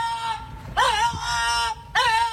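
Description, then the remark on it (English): A dog gives drawn-out, strained vocalisations with bending pitch that sound almost like the shouted word "VAR": a long wavering call, then a second rising one, each loud and harmonic-rich with no other voices. “the dog is shouting VAR, almost like he just watched the Premier League game and shouting in anguish, VAR.”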